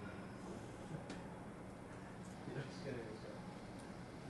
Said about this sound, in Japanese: 2番線を列車が通過いたします。危ないですから黄色い線までお下がりください。